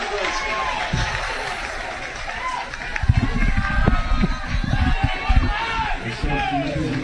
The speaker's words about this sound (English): Base hit. Base hit. C&I single. Base hit. That'll bring Maddox right to the plate. Crowd erupts.